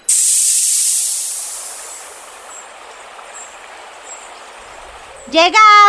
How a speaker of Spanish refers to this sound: Aterrizaje exitoso. Pueden descender de la nave radial, abriendo compuertas.